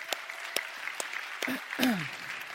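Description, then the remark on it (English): A church audience claps steadily in a dense wash of overlapping hand claps for their pastor and his leadership, with a couple of brief vocal whoops rising out of the applause near the end. “And I just want you to give a round of applause to Pastor Gary and just what his leadership does for this community and the church.”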